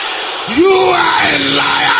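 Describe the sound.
An audience of many voices shouts back together in unison at a speaker's call, a loud sustained collective yell rising sharply and holding steady over a noisy, reverberant background.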